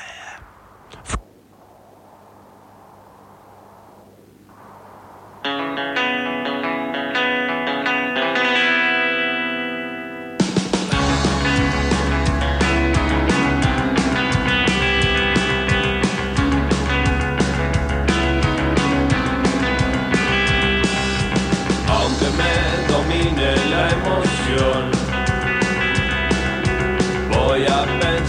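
A rock song starts with a quiet low drone, builds through a swelling distorted guitar chord, then the full band crashes in loud and dense with heavy effects and no vocals over it.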